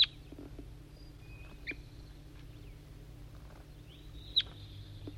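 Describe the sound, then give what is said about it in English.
A few short, high-pitched chirps from a wild bird in the distance, spaced a second or more apart with a sharp squeak near the end, over a steady low hum. “Responding, I think, to a wild bird in the distance.”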